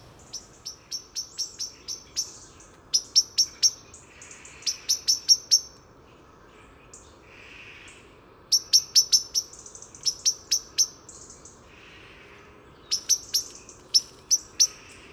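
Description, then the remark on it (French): A European robin's autumn song: short bursts of thin, high, rapid notes, delivered in several brief phrases separated by pauses, fairly clear over a quiet background with no talking. “Les chants d'automne du rouge-gorge sont souvent pas très très longs, émis sur des perchoirs différents.”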